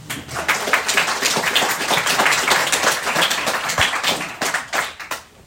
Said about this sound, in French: Bonne conférence. On l'applaudit.